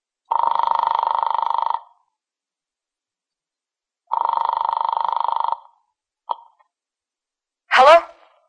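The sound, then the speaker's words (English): A telephone call from a farmer's house to an apartment: the phone rings twice, each long buzzy ring separated by a pause, followed by a sharp click as the receiver is picked up and a brief voice answering. “He eventually led me to the phone and I dialed my apartment.”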